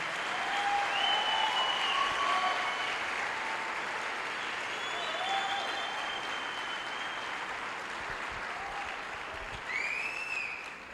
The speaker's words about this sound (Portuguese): Aplauda mais forte.